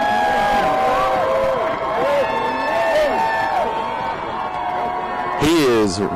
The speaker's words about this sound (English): And I hear the crowd cheering him.